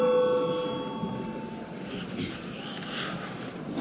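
A parliamentary voting bell, rung after debate closes and before a vote on the eighth proposal of a bill, rings with a steady, sustained electric tone for about a second and a half, then fades into a low, rumbling murmur of background noise.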